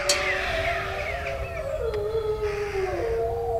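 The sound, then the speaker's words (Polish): Several wolves howl together in a steady, overlapping chorus, long wavering tones sliding up and down, loud, with no one speaking. The wolves are dancing, coming together and rubbing against one another. “O, widzimy taniec wilczy. Już zobaczyły nas.”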